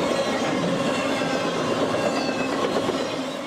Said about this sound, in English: It's called corrugation, and it leads to the sound called roaring rails, where the train roars over the vibrations and sort of like, and so they have to periodically grind down the rails to get rid of that noise.